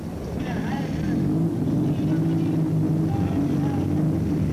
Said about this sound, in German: Jetzt kommen die Wagen angefahren. Sowjetrussischen Wagen, und die Menge begrüßt sie bereits, wie es diesen Leuten gebührt.